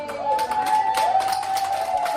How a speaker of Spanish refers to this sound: Este sonido, para mí, yo creo que es un sonido histórico. Son los aplausos de los sanitarios a Margaret Keenan, la primera mujer en recibir la vacuna en el mundo. Es el sonido que nos dejó el 2020 a principios de diciembre